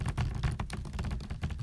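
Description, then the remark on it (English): Light, rapid finger drumming on a piece of furniture with arms and a back, a fast patter of soft taps like rain, with no voices. “is the sound that it makes when I drum my fingers on it like rain, very lightly and very fast.”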